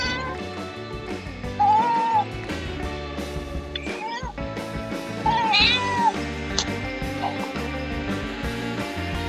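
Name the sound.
cat meowing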